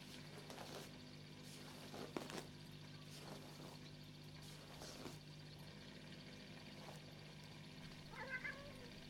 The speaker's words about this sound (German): Oh, die Katze hat Hunger.